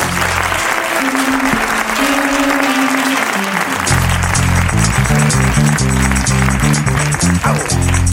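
An audience bursts into sustained, loud clapping that runs the whole time, with music playing underneath: held tones at first, then a bouncier rhythmic bass line joining in.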